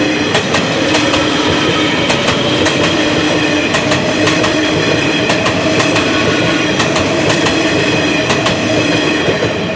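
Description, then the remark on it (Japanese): A new-model Nishitetsu electric train, silver and blue, inverter-controlled and of the type used for limited express services, rumbles past at the Asahimachi level crossing. It is steady and loud, with a humming motor whine and rhythmic clicks of wheels crossing rail joints throughout; no one speaks. “静かっていうか、まあ、 まあ、よくある インバーター制御なんです ね。さあお聞きいただきましょう。西鉄の新型車両です。”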